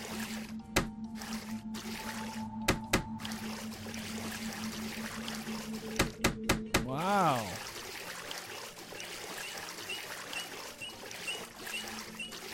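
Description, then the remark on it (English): Steady washing of sea water runs through the scene as video game ambience while floating across the Tangeria Sea, joined early on by tonal chimes, sharp clicks and a rising-falling electronic swoop, with a brief exclamation from a voice. “There's nothing I like more than floating across the sea on a nice day like today.”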